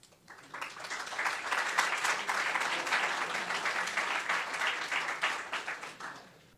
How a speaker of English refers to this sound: How about another round of applause for the next chief of police, Brittany Quick Warner?